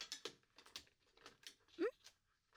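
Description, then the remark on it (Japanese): A drawer slides open, followed by a quick run of clicks, knocks and rattles as small objects are rummaged through in search of scissors, with a brief rising vocal sound partway through. “確か、ここの引き出しにハサミ入ってたような。”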